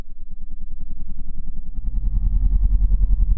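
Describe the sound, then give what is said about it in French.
A low, growling sound with a warped, reversed quality, rumbling continuously and growing louder and heavier halfway through, with a pulsing, distorted texture and no clear words. It is a recording played backwards, said to hold a satanic message. “Donc on a un message satanique à l'envers.”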